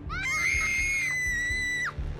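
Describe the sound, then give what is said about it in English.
A girl's piercing, high-pitched scream, one long shriek held at full force for about two seconds before breaking off, loud, with faint low thumps underneath. “Then she heard my sister and her friend screaming at the top of their lungs.”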